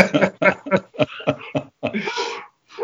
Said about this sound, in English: My dog is the doorbell just rang and the dogs are barking like crazy. So I apologize to everybody.